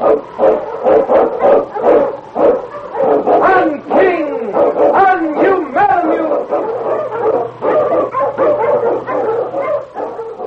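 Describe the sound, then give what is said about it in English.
King, an Eskimo sled lead dog from The Challenge of the Yukon, barks loudly and excitedly, a rapid run of sharp barks and yips mixed with whining howls, continuing without pause for about ten seconds, blazing a trail through storm and snow. “Underdog King, swiftest and strongest of Eskimo lead dogs, blazes a trail through storm and snow for Sergeant Preston as he meets the challenge of the Yukon.”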